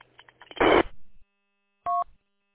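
A scanner squawks with short GMRS radio call tones as a coworker up ahead calls in: a brief burst of crackly static, then after a pause a clean electronic dual-tone beep, fairly loud, with no talking.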